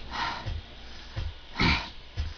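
Heavy, close breathing right into a microphone, a few rough exhales in a loose rhythm, each pushing a low thump of air against the mic, with no talking.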